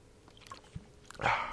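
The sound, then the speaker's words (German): Someone sitting alone chewing a bread roll: soft, irregular mouth sounds with a short crunch partway through, then a louder, crackly burst of chewing at the end. No one speaks. “Da ich dieses Laster ja nicht mehr habe, bin ich hier für mich alleine, gucke ein bisschen mal Twitter, esse ein bisschen Brötchen und trinke jetzt ein bisschen Wasser.”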